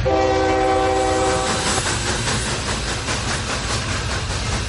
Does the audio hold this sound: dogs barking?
no